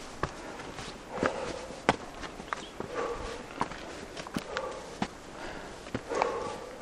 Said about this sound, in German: Dieses schwere Atmen, das kenne ich gut. Es sind meine eigenen Atemzüge während eines steilen Anstiegs die übergrünte Kraterwand hinauf im Cirque de Silaos, einem der drei großartigen Talkessel inmitten der Insel La Réunion im Indischen Ozean.